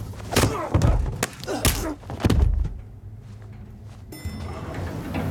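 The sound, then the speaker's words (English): A cluster of loud, dull thumps and knocks as a guard is shoved back at gunpoint into a lift and a button is hit. A quieter lull follows, then a steady mechanical hum starts up as the lift doors slide open onto a corridor with brownstone walls and a marble floor. “He shoves the guard back at gunpoint and hits a button.”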